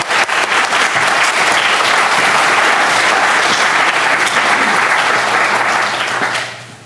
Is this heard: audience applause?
yes